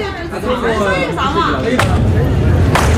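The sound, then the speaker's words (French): An old man, an animal trainer, cracks his whip: two sharp whip cracks snap out, a second or so apart, loud against a steady background of crowd chatter and people talking. “Il claque du fouet, le vieux, hein.”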